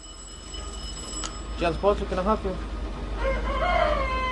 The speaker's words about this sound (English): It's the Sunday before Thanksgiving, and the phone is already going crazy here at John's Live Poultry in Chicago's Northwest Side.